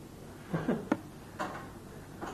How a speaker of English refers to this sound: And he's like starting to slam doors, and I gotta find the ketchup.